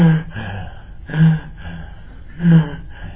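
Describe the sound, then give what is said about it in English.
A voice imitates a man's loud, noisy breathing during meditation: three heavy, raspy gasping breaths spaced roughly a second apart, with no other sound around them. “He was making too much noise, breathing.”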